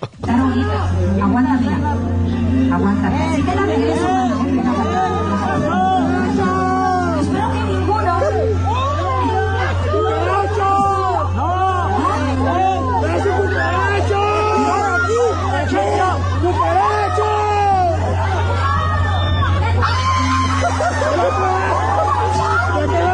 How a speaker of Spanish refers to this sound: Oye, Nuevo, me haces un favor, ¿le puedes poner a eso la música de Tiburón? Porque gritan cucaracha como si le estuviera atacando un monstruo. Realmente me parece excesivo.